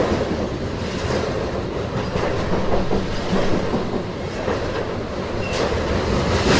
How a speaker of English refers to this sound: I still don't see the end of this train. It's incredible. It must be well over 100 cars. Hey, look at the railroad ties, the way they're flexing in the ground. Should we be nervous with that? Yeah, it's just a lot of weight.